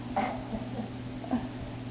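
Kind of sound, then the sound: human body sound, stomach rumbling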